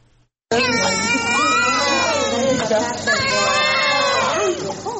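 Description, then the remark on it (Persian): Newborn conjoined twin babies, born Thursday evening at the maternity hospital in Herat and together weighing about 4500 grams, wail loudly and continuously. Two high, quavering cries overlap for several seconds after a brief quiet start, with no talking. “گریه های دوگانگی به هم چسبیده، اینان عصر روز 5 شنبه در شفاخانه نسای ولادی هرات متولد شدند.”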